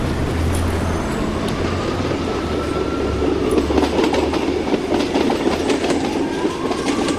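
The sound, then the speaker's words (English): A CityRail commuter train in Sydney rumbles steadily along the rails, loud, with rhythmic clatter of wheels over track joints and a low droning hum throughout, no voices. “City Rail in Sydney, you're allowed to take your bike on the train, but you have to pay a concession fare if it's during peak hours.”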